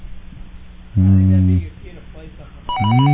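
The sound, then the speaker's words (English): A telephone rings in two loud, tonal bursts separated by a short pause, with faint voices murmuring in the background. “Somebody disconnect that fucking phone.”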